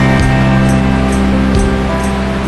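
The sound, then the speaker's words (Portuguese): A steady, loud roar of rushing water fills the scene, continuous and unbroken with no voices: a waterfall with a large volume of falling water, fed by several small springs in the high ground of a national park. “E na hora que eu cheguei, que eu vi essa exuberância toda, grande volume de água, essa queda, muita emoção.”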